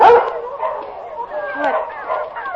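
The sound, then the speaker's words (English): A dog named Mike, kept in a cage, gives a sharp bark, then breaks into steady, high-pitched whimpering and whining that rises and falls, with no other sounds around it. “He's in the first cage, right through that door.”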